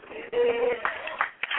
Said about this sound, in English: You're not clapping like you're excited.